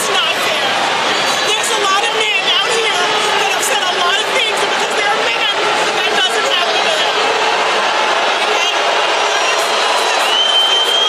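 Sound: stadium crowd cheering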